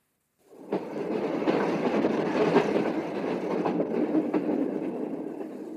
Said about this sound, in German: Der alte Wagen dröhnte und rasselte und stieß sie manchmal in die Seite.